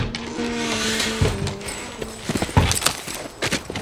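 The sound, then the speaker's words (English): The horses of two cowboys gallop out of town with a quick, uneven drumming of hoofbeats that grows busier and louder toward the end, over a low steady hum with no voices. “Matt turned at the Batwings as the two cowboys jumped in their saddles and lit out of town like it was a double payday at the ranch.”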